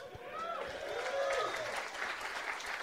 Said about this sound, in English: Telling the story about the Undertaker almost dying and I'm begging for applause.